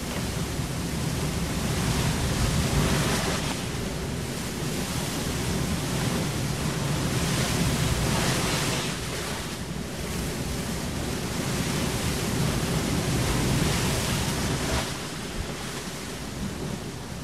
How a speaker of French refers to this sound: L'embarcation est entraînée vers les rochers et se brise en 1000 morceaux. La pluie se met à tomber à grosses gouttes.